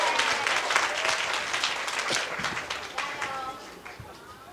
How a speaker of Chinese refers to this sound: 掌声。